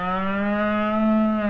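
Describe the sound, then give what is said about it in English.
A cow patient moos in a vet's waiting room scene: a single long moo, loud, held steady for over a second before dropping off sharply at the end, with no talking around it. “Morning, Mrs. Cow. What seems to be the trouble?”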